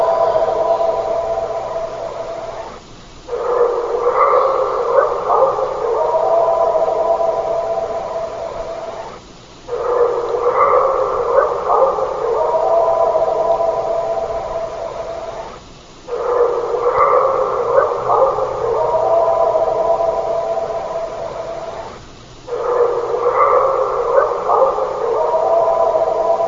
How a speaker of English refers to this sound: Sounds like a lot of barks at the beginning. Yeah, yeah. Interestingly enough, I'm still formulating this, but some of the barks are dog and some of the barks are not.